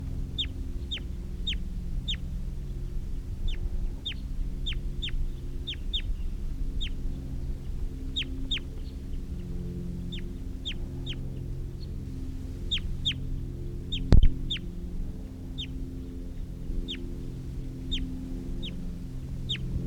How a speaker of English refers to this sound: I had released those birds about 45 minutes ago, and they're still here in the trees. One of them's calling now, and sometimes the decoys and captives have been calling back to the wild birds.